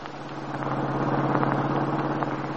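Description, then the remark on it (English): A car engine drones steadily while driving as Max drives Paul Cromwell to an appointment with his attorney, a constant low hum with a rumbling undertone and little change in loudness throughout, with no voices. “Now, in another car, Max is driving Paul Cromwell to an appointment with his attorney.”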